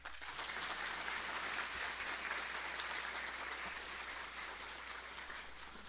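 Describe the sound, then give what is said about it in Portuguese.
Steady audience applause for the municipal education secretariat staff and the teams of the schools EMEI Professora Eida, EMEB Francisco Mariano Braga and Centro Estadual Conde D., a dense crackle of many hands clapping at an even, sustained loudness with no voices over it. “A todos estes, faço uma pausa e peço uma salva de palmas.”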